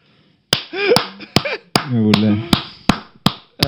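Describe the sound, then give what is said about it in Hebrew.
Sharp hand claps ring out at a steady, unhurried pace, about nine in all, loud, while a person keeps talking between and under them. “אני מוחק כפיים לשני דברים.”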